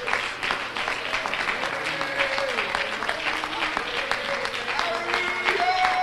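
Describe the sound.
An audience at a church service claps in praise of God in sustained, dense applause for six seconds, steady and loud, with voices calling out and a few tonal vocal or instrumental lines weaving underneath.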